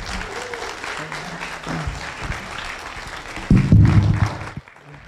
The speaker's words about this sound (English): And so yes. give the Lord a hand clap for him.